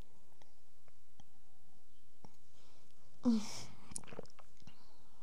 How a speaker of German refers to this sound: Ich muss mal kurz einen Schluck trinken.